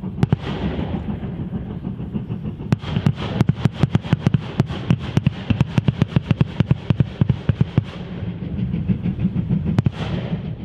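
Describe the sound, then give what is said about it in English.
A rapid series of sharp explosive bangs from railway torpedoes detonating as an oncoming train rolls over them, crackling loudly over the steady low rumble of the train. “And oncoming trains would just roll over a set of these. They detonate with a series of bangs.”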